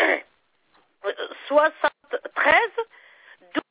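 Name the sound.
telephone keypad tones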